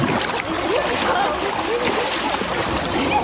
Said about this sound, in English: I'm going to give it another go and dive back in.